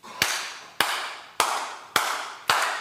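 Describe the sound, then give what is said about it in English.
Five sharp, evenly spaced claps ring out in a slow steady rhythm, each with a brief echoing tail, as a group of women in the front row of an audience clap together in unison. No one speaks. “The people in the front row that started clapping, all women.”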